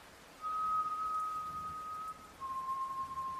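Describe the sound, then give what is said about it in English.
Someone whistles a slow, soft tune inside a house, holding one long steady note, pausing briefly, then sliding into a slightly lower sustained note, faint against a quiet background hiss. “Someone was whistling a slow, soft tune.”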